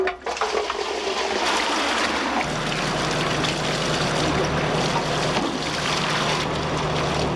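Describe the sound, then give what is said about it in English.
Maple sap from full collection buckets on sugar maple trees is poured steadily into a collecting container, a loud, continuous rush and splash of liquid that keeps going without pause, with no voices. “Within a short time, the buckets are full and the sap is poured out and collected.”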